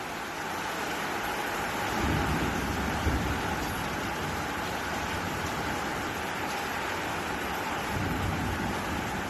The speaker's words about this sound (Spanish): Y es que la tormenta eléctrica también ha sido muy importante. Y en pleno centro de Valencia, en el barrio de Jesús, otro rayo ha impactado dos veces, aunque afortunadamente sin daños.